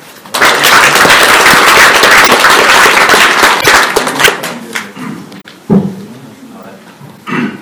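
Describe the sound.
A crowd breaks into loud, dense applause at a Fudan University ceremony, welcoming an alumnus to give a speech, a steady crackle of many hands clapping for several seconds before it thins out and a single voice begins speaking.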